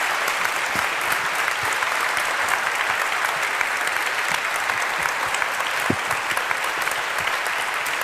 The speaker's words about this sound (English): Please give her a last round of applause and thank you so much.